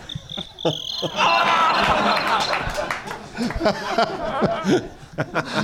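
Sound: crickets chirping sound effect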